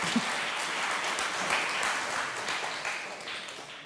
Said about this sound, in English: Thank you so much. Can you give him a round of applause for bringing me coffee?